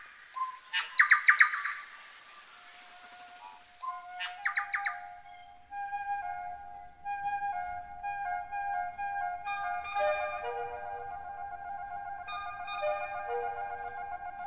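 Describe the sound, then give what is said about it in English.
A bird call recorded outdoors by Oliver Swift, loud bright bursts of rapid chirps, two quick phrases in the first few seconds, before steady sustained tones of Beethoven's music take over and carry on to the end. “And again, one final time, here is that bird call.”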